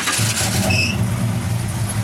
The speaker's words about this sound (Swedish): Det finns ingen bil som har sånt ljud som en Chrysler.